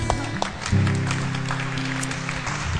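A crowd applauds for a woman with steady, dense clapping for about three seconds, accompanied by a low sustained hum underneath, with no voices standing out.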